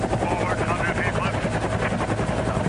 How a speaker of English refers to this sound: He's over the top of this huge, gaping Grand Canyon. Helicopter's trying to maintain a stationary position.